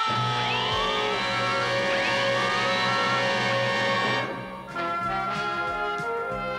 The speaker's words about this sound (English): An invader! The Decepticons must be alerted! Dad! Dad, don't! Must sound alarm! No!